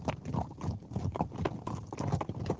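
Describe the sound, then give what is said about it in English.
An English Shire horse's hooves clip-clop in a steady, repeated rhythm on a hard surface, fairly loud, with many crisp strikes and no talking. “One particular breed of horse is the English Shire, known worldwide for its enormous strength and exceptionally good nature.”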